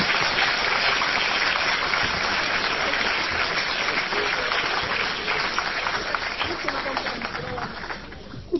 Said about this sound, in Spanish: Bueno, un aplauso para